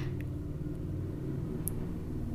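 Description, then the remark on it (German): A loud, deep engine rumble from an old car outside, droning steadily for the whole moment with a rough, throbbing low tone and no one speaking. “ich glaube, einfach ein altes Auto, Okay, das war extrem laut war gerade.”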